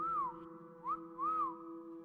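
A person whistles three short arching notes, rising then falling in pitch, spaced out like a call signal, heard over a steady low hum with no talking.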